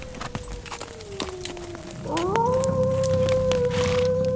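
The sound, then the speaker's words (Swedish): A long, wavering wolf howl carries from far away, dipping slightly then rising and holding steady, while horse hooves clip-clop unevenly. “Den där vargen är långt borta.”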